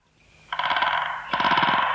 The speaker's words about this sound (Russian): а это что за треск с той стороны? Я думал сначала, что там деревья скрипят, но ветра-то в лесу нет. Тихое, светлое утро. И вдруг это... Др-р-р-р! Дятел дерево долбит.